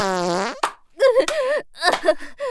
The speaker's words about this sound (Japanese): おなら出てる。恥ずかしい音聞かれてる。